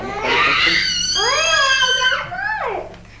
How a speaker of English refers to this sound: he's screaming because he couldn't pick up the mat